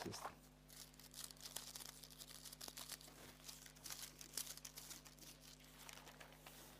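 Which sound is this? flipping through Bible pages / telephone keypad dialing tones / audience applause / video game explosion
flipping through Bible pages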